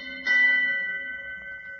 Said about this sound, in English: All through the night, the ship's bell aboard the Hero found its echo out in that freezing smother of fog.